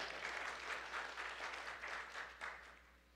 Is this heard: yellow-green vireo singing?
no